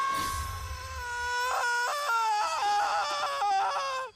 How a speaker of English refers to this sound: I heard your horrible scream!